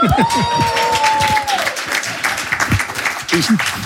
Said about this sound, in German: Ich sage dann immer dazu, dass ich den Applaus dann auch einfordern muss, weil der ist sehr angebracht an dieser Stelle